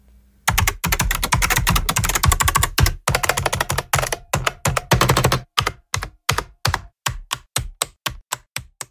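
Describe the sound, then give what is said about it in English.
Rapid, clattery typing on a vintage mechanical keyboard, crisp, with dense bursts of keystrokes that slow into separate, evenly spaced clicks near the end. No voices. “Vintage Mechanical Keyboards by Missile Goose captures the nostalgic sound of 7 unique sounding mechanical keyboards”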